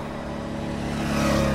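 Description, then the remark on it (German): Steady road traffic on a winding road through a village on a fine Sunday afternoon, motorcycles one after another with cars in between, an engine droning and rising slightly in pitch and loudness as a vehicle approaches, a continuous rumble with no voices. “Ein Motorrad nach dem anderen, dazwischen Autos.”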